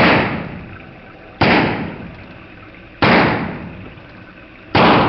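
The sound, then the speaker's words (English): Four loud gunshots in a shootout, fired at a steady pace about a second and a half apart, each sharp crack trailing off in a long, booming decay. No voices are heard. “They shot the lieutenant!”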